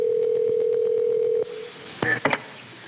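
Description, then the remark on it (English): A steady telephone line tone hums for about a second and a half, then falls quiet before a few quick dial beeps and clicks come through the narrow, tinny phone line, as a phone call begins the story of the Elk River chemical spill near Charleston. “She brings us the story of the Elk River chemical spill, a story that begins with a phone call.”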